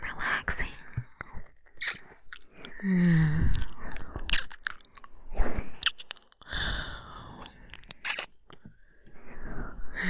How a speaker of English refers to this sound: And give you all the hugs. And all the kisses.